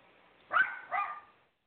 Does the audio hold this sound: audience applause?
no